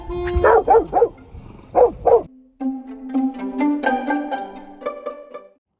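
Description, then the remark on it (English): The dog Seeger lets out a quick run of about five sharp, loud barks in two bursts, followed by a longer wavering, tonal sound that rises and falls for a few seconds before stopping. “That's Seeger in the background. We might have to put him away.”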